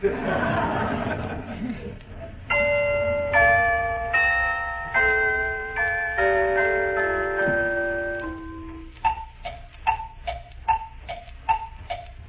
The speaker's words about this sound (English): The clock.